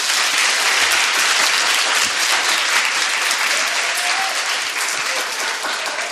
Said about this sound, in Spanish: Damos ya la bienvenida a todos con un fuerte aplauso.